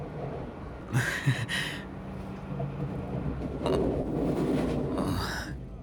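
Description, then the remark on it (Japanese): A steady low rumble of a moving train carriage that sways a lot fills the background, with a few short breathy exhalations and throat sounds over it. No one speaks. “この電車よく揺れますよね。”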